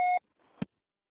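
signal or alarm, answering machine beep

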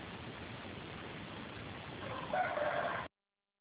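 bird, neighbor's roosters crowing

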